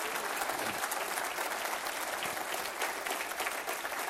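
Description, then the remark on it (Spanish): An audience applauds God steadily for several seconds, a dense, sustained wash of many hands clapping at once, fairly loud and continuous with no talking over it. “Eso merece un buen aplauso a Dios, hermano.”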